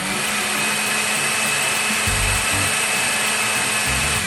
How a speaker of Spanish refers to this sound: Comenzamos colocando el maní tostado en una procesadora o una licuadora potente. Procesamos durante 2 a 3 minutos hasta que el maní se convierta en una harina gruesa.